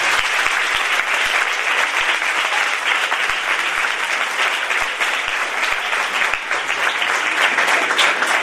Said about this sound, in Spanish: Y junto a nosotros hemos tenido un equipazo de funcionarios para los que voy a pedir un aplauso